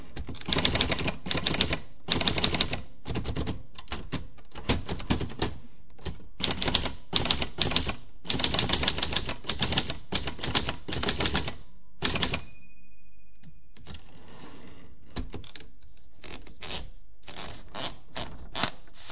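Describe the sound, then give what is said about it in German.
Rapid, loud mechanical typewriter keystrokes clatter for about twelve seconds, then a bell-like ding and a carriage return, followed by quieter, scattered key taps. No one speaks. “dass man diesen Übergang versucht, irgendwie sanft zu gestalten, kann man sehr schön sehen am Übergang von der Schreibmaschine zum Computer.”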